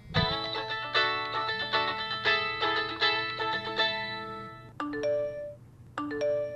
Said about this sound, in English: We all know these sounds and could probably respond to them in our sleep. Phone calls, texts, emails, it's never ending.